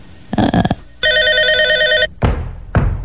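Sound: telephone ringing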